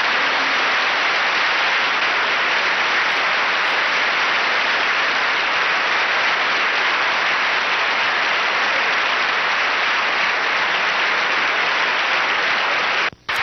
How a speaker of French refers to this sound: D'ailleurs, les applaudissements le prouvent.